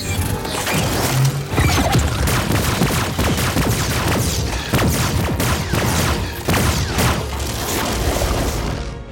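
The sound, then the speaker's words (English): A rapid barrage of phaser shots, about 20, fired by Picard and repeatedly missing a prisoner, a dense, loud string of zapping blasts and crashes lasting several seconds with no voices. “I have the sound of them missing the fucking prisoner slurping away like 20 times.”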